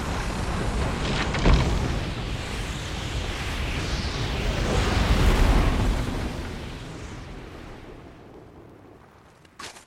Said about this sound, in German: Es ist unmöglich, die Gewalt der Elemente auf Elephant Island zu beschreiben. Das Heulen des Windes, die peitschenden Stürme, das Donnern kalbender Gletscher, deren abbrechende Eismassen die Größe der St. Paul's Cathedral haben.